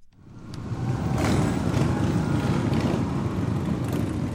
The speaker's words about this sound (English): Members of Rolling Thunder rolled into downtown Natick Sunday afternoon, dozens of motorcycles roaring as the crowd saluted.